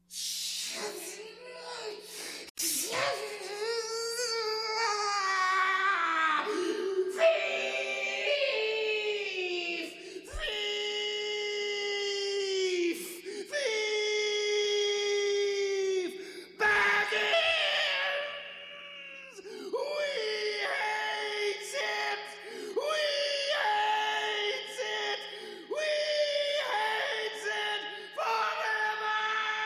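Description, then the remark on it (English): A voice shrieks and wails in long, wavering anguished cries, loud, rising and falling almost without pause for half a minute, like a tormented creature howling in despair. “Then they'll have heard his shrieking and cursing.”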